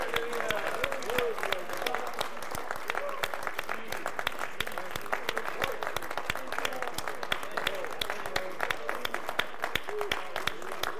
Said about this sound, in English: Come on, just keep clapping. Keep clapping.